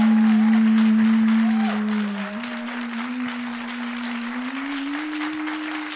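A burst of audience applause for a question, measured on an applause meter, dense and steady clapping that fades slightly after the first two seconds, with a sustained low hum running beneath it and gradually creeping upward in pitch.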